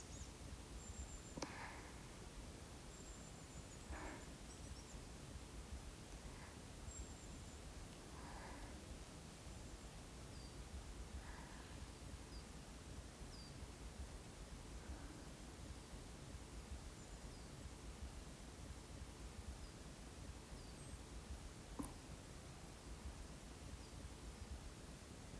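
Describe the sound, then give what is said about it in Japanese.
A steady, hushed outdoor woodland ambience in a small forested neighbourhood park near an apartment, with soft continuous rustling of leaves, broken now and then by faint bird chirps and calls; no one is speaking. “森しかないみたいな森とは比べようもないけど、それでもアパートのご近所の公園のもちっちゃいけれどちゃんと森だし安らぐよね。”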